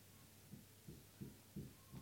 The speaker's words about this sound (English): that's my neighbours. That's what you can hear above. I don't know what they're doing. Bit of DIY, walking about, getting things from the fridge.